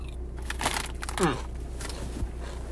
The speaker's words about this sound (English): I apologize for my crunching, if you can hear any crunching, because they are some crunchy chips. Cape Cod salt and vinegar.